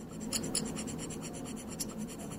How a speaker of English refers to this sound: All right, so these little scraper tools, what do they sound like?